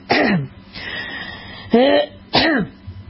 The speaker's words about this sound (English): Just always kind of having to clear your throat and cough.